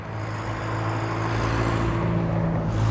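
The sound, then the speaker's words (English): A car passes on a mountain road on Mount Diablo under a cloudy sky, its engine droning steadily in a low humming rumble with broad road noise that grows slightly louder over the few seconds. No one speaks. “I just wait till this car passes.”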